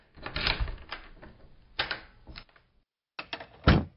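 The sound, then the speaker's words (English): Sharp mechanical clicks and rattles of an office door being locked, coming in several bursts separated by a brief silence, with no voices. “Mac locked the office door and headed down the creaky stairs behind Tess.”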